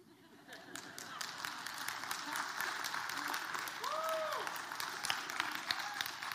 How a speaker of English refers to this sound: I think Starbucks got a bigger clap than me.